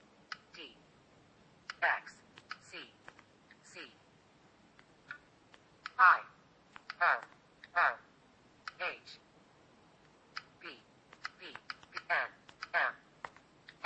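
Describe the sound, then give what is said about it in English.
Irregular soft taps on a phone touchscreen's on-screen keyboard while typing a period and the letters C-O-M, each followed by brief, rapid bursts of synthetic screen-reader speech announcing characters, moderately quiet over about fourteen seconds. “Let's double tap to insert that.”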